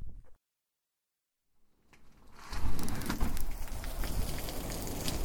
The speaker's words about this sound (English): It's raining and thunderstorming outside. I love the rain and thunderstorms.